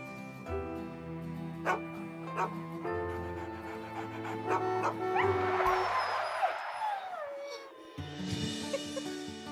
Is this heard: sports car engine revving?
no